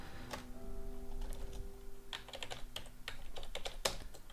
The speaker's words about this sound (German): Oh, ich kann nicht mal tippen. Ah, doch, geht.